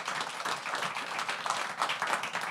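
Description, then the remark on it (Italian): Steady applause from an audience for the publisher of the book, Cluster A, who is present in the hall, a dense wash of many hands clapping at a fairly even level for a couple of seconds with no voices on top. “Facciamo un applauso all'editore che è anche qui presente in sala.”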